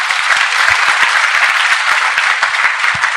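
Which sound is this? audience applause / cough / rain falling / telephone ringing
audience applause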